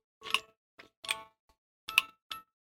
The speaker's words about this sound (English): There's a wind-up. We still have this wind-up clock. I found it from who made this? This is a Fisher-Price clock. Yeah, this is really old, and it still works.